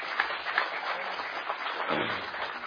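A crowd breaks into steady applause for a guest who presented his work, many hands clapping in a dense, even patter that holds at the same level throughout, with no voices standing out above it.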